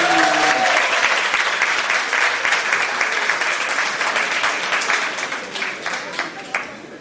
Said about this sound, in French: Vous êtes d'accord, messieurs? Applaudissez!